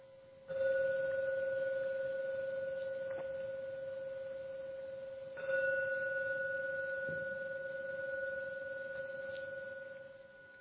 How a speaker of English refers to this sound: So I'll ring the gong 3 times.